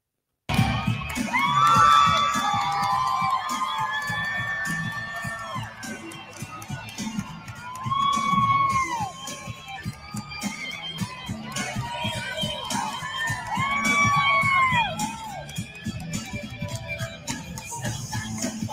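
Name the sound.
crowd cheering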